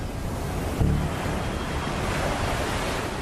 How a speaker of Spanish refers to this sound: Vimos como el agua giraba y giraba sin cesar, haciendo un ruido atronador al romper en las rocas.